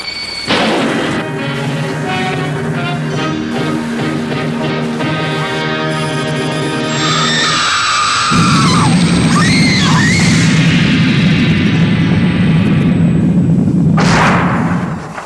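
A nuclear explosion: eerie, sustained ringing tones swell, then a huge, continuous roaring rumble takes over and holds loudly for several seconds before cutting off abruptly. No one speaks.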